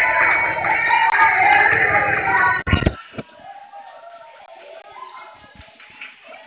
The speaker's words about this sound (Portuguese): Amiga, eu vou te chamar no WhatsApp, aqui tá uma gritaria.